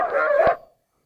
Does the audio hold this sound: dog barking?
yes